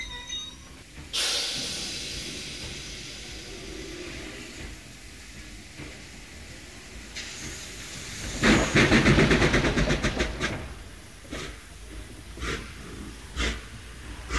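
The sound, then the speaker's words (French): A steam train hisses with broad, steady noise, then a louder burst of chugging and clanking swells midway before settling back into hiss and intermittent mechanical knocks. No one speaks. “Le train à vapeur, une des modernisations les plus prometteuses, raccourcissait les distances, instaurant une nouvelle forme de concurrence par la circulation des marchandises et par une transhumance humaine sans précédent.”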